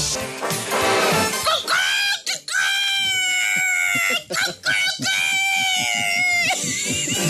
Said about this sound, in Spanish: Dime si tú sabes cómo hace el gallo. Vamos a escucharlo tú y yo.